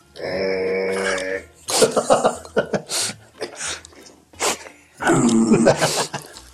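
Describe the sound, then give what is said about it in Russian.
Men make low, rough growling noises with their voices while tasting borscht, a sustained burst at the start and another near the end, with scattered grunts and mutters in between, fairly loud. “Парни, что вы рычите?”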